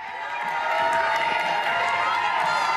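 people cheering

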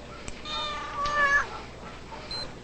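cat meowing

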